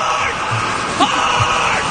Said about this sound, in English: Listen to him. He's screaming hard.